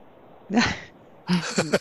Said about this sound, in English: new meowing. Yes, need attention.